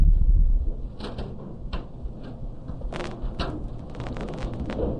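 Scattered papery rustles and soft flicks as people turn pages to find Psalm 106, verse 48, arriving in irregular bursts over a steady low rumble, with no one talking.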